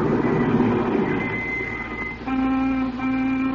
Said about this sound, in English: And then a car pulled a stop outside.